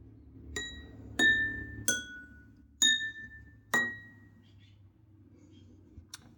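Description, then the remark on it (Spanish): Glasses, each filled with a different amount of water, are struck one after another, five clear ringing tings at slightly different pitches, each leaving a sustained bell-like tone that fades, followed by a faint final tap. “O bueno, si llenamos copas con diferente cantidad de agua cada una y las percutimos, también logramos variados sonidos gracias al agua que ellas contienen.”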